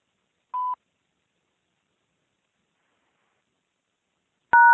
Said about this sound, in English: To send a fax message, press 1. Otherwise, please record after the beep. When you finish recording, press pound.